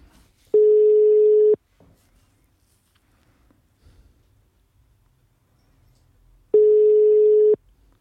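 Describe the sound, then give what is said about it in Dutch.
Two long ringback tones from a landline phone call, each about a second, spaced several seconds apart with near silence between, the steady buzzy tone ringing unanswered. “Dan ga ik straks nog haar mobiel proberen te bellen.”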